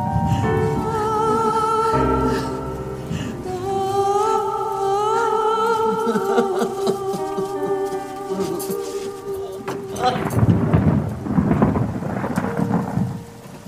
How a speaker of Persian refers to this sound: بارون شدیدی میباره